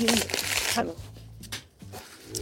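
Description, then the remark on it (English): Paper is crumpled and torn in a burst of crackling rustles, followed by a few sharper rips. People talk over and between the noise. “Can I rip it up? You want to crumple?”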